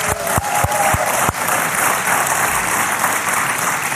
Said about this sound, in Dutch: Dus geef alsjeblieft namens mij jullie zelf een applaus.